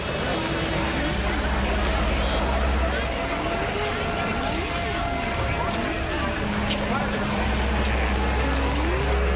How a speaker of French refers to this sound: À la fin de la corde, alors que toute l'action s'est déroulée en temps réel dans un appartement, James Stewart ouvre la fenêtre. Et l'on peut entendre monter tous les bruits de la rue. La caméra recule. Et pourtant le son de la vie envahit l'écran.